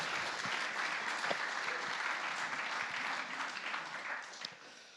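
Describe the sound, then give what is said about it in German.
Sustained audience applause for a bass player, a dense wash of many hands clapping at once, steady and fairly loud for about five seconds before starting to ease off at the end. “Ja, ein Applaus.”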